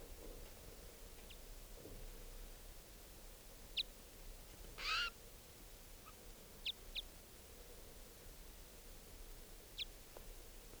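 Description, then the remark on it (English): A wild bird calls from the trees in sparse, irregular high-pitched notes, mostly short chirps plus one longer, louder call midway, over a steady low background hiss with no talking. “The other wild bird still up in the trees calling.”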